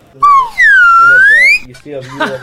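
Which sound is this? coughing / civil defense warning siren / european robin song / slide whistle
slide whistle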